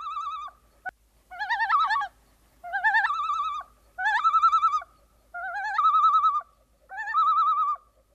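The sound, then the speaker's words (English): A bird's wavering tremolo alert call, given in flight near a lake, repeated in six quavering bursts with brief pauses between, loud and harmonic, over a faint, steady low thumping of wingbeats. “Why don't we listen to the tremolo in flight?”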